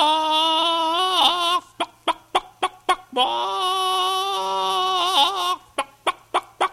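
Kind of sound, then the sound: bird, rooster and hens clucking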